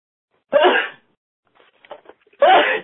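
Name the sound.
sneeze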